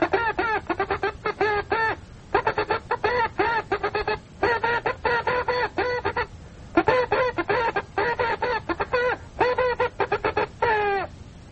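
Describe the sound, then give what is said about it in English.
A voice rapidly imitates Morse code, sending the message "What hath God wrought" in CW as a fast stream of short and longer voiced beeps in clustered groups separated by brief pauses, fairly loud and steady in pitch throughout. “I'll send it to you in Morse code.”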